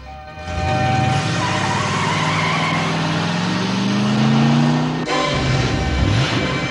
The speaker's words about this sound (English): Rizzo turns and watches Kinnicky drive off in his car, Greased Lightning.